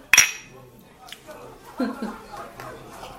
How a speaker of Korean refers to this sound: 나 오늘 그냥 마실래. 네. 짠해. 짠하자.